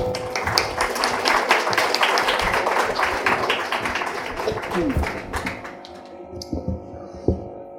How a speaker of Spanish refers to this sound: Le damos un aplauso, por favor.